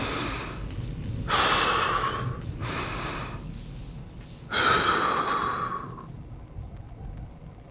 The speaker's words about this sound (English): The eye of this storm embeds itself deeper inside him. I focus my breathing.